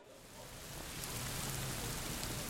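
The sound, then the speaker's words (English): Steady late-afternoon rainfall in Tampa fills the scene with a dense, hissing wash, rising slightly at the start and then holding even, a low rumble beneath the patter and no voices. “In Tampa's late afternoon rain, we made a trip to the historic Ybor City neighborhood.”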